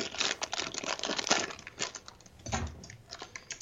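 Crinkly plastic packaging from Redbubble, holding a poster, being torn and opened with a knife, with a steady run of sharp crackles and rustles, busiest in the first half, plus a brief muffled thump partway through.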